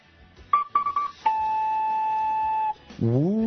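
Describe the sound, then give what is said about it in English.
A voice imitates a two-tone Alabama fog whistle: three short high hoots, then a long steady high tone, followed by a lower, rising, buzzy tone. The blasts are loud and stand alone. “Ooh, two-toning he is now with his Alabama fog whistle.”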